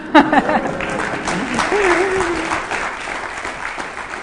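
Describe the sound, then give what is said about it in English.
A crowd applauds steadily, a dense wash of clapping that holds at a fairly even level for several seconds, with a voice briefly speaking over the start before the applause carries on alone. “That's, you could applaud for that.”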